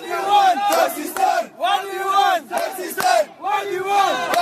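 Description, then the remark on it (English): More than 40 cab drivers and supporters protest on a Friday morning outside the Gaylord Hotel at National Harbor, chanting together in loud, rhythmic bursts, their voices rising and falling in repeated phrases with brief pauses between each shout. “Friday morning, more than 40 cab drivers and supporters protested outside Gaylord Hotel at National Harbor, the luxury resort and mini city on the Potomac River just over the DC line.”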